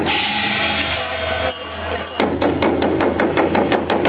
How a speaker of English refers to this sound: A pair of Vietnamese dragons brave the drizzle in Prague's Námestí Míru Square, the four dancers gyrating in their bright red and yellow costumes to the beat of a drum.